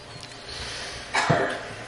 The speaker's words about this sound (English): Do your coughing, do your blowing.